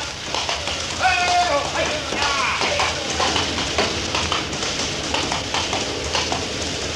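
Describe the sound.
Horses gallop past as guards whip them on, a dense, rapid, loud clatter of hooves, while voices call out briefly over the pounding rhythm.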